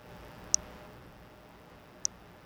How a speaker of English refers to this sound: So it's ticking about, I'd say, once a second, right? Is that about accurate? Yeah, once a second.